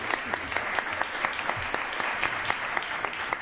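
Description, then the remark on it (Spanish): Steady applause from an audience for president Francisco Serrano, a dense patter of many hands clapping with sharper individual claps popping out regularly, sustained at an even, moderate level throughout with no voices. “También don Francisco Serrano, presidente. Aplaudo.”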